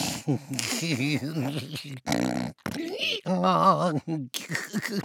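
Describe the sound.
A voice mimics a donkey snoring in its sleep, with wavering, braying snorts and grunting breaths in several loud bursts separated by brief pauses.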